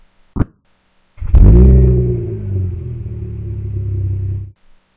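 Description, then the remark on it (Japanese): A short click, then a car engine roars to life and revs in a loud, steady rumble for about three seconds before cutting off abruptly. No one speaks. “はい、じゃあ君はこのまま車を走らせ続ける、続ける、昨日果てまで走ってバイバイ、バイバイ。”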